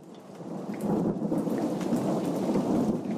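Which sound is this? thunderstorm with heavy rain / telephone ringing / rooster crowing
thunderstorm with heavy rain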